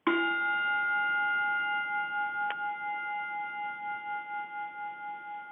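The original gong of Major Bowes from the Amateur Hour radio and television show is struck once in an office in Los Angeles, loud, then rings on with a sustained metallic tone that wavers and slowly fades over several seconds. No voices are heard.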